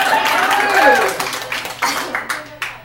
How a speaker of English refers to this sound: One of the books that made its way around the room was Judy Blume's Are You There, God? It's me, Margaret. Yeah, clap for that.